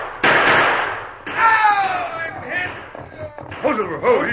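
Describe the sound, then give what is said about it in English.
Two loud, sharp gunshot bursts ring out a second apart, fired by a couple of men riding fast across the plains, each leaving a rough noisy tail, followed by excited voices shouting over a clattering, busy background. “And I saw a couple of hombres coming lickety-split across the plains with their guns blazing.”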